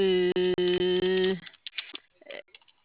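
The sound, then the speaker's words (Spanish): A quick run of electronic keypad beeps, about five tones in rapid succession with tiny gaps between presses, loud, as someone enters the code 6969# on a keypad, followed by faint, muffled talking in the background. “A ver, te doy, si quieres, te doy la de teclado, la de tablero. La de teclado para ver. A ver, ahí te va.”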